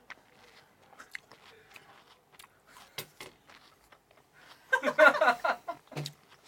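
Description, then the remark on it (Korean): Wet chewing and crunching of a mouthful of hot rice and chilled watermelon taken from a kimchi refrigerator, starting with scattered soft bites and swelling into a dense burst of juicy crunches near the end, with no talking. “자, 씹는 소리 들리시죠?”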